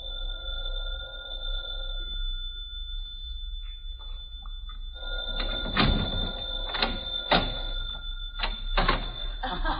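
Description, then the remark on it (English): An old telephone bell rings in several sharp, jangling bursts, loud, over a steady background hum and hiss with no one speaking. “Just a minute, dear, is the phone.”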